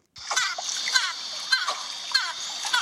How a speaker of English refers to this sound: That's just a little dolphin noise, you know, they're saying hello to, you know, not to sway the vote or anything. Wow. But you know, there's some dolphins.